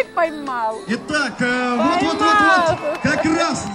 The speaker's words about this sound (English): No swords here, but plenty of horses, and tons of people who've come to watch. They've brought signs, and they cheer for their teams as they struggle to rope steers in the arena.